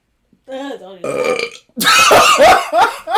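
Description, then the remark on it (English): A loud, drawn-out burp followed by a second, rougher and longer belch, both forceful with a brief pause between them. “I can't make myself burp. It's I can't easy. Make a burp.”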